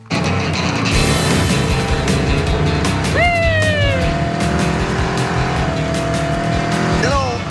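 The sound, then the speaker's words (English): A car roars along at high speed with a loud, sustained engine drone, and tires squeal sharply in long screeching sweeps, with engine and road noise filling the whole stretch. “You might want to slow down just a little bit. You're in the wrong car.”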